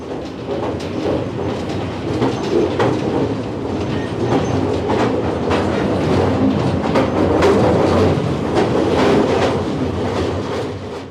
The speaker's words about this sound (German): Die Einfuhr in das Bergwerk erfolgte mit der Grubenbahn. Diese beförderte alle Mitarbeiter auf die oberste Stollenebene.